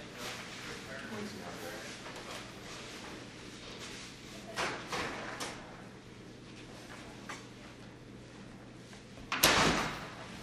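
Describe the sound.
A few soft knocks and rustles lead up to a single loud door shutting near the end, with faint voices murmuring in the background throughout.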